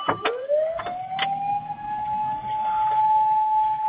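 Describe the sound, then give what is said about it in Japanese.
A fire engine siren wails steadily as the fire engine passes by, its tone rising at first and then holding high, with a few sharp bursts mixed in. It fills the whole recording, with no talking. “あ、ちょっと今、消防車が通ってますんで、ストップしてます。”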